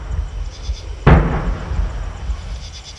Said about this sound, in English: And, of course, there's the familiar boom of the cannon, which marks the end of another fallen tribute.